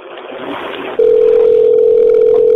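A loud, steady telephone tone holds unbroken after about a second of hissy line noise, sounding clear through a phone line during a call to Pizza Hut that no one picks up.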